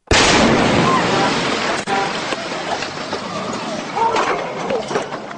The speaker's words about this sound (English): A car bomb exploded, killing three people, including a federal police officer. Authorities now believe the injured man was a decoy to lure police to the scene.